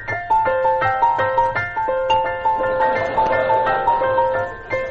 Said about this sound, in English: I'll just push the doorbell.